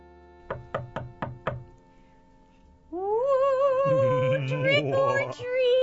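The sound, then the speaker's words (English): Five quick, evenly spaced knocks on a door sound crisp, then a brief pause gives way to a loud, wavering, cat-like yowl that continues to the end. “Trick or treat. Who's that at the door?”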